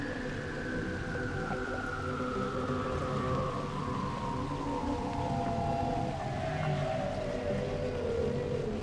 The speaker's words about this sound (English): Each week, Henry the Hudson Whale joins us. There he is. As we tell Hudson River stories.